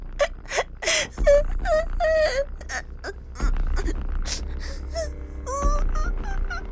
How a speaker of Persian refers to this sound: بس اینقدر گریه نکنین، همه چی درست میشه.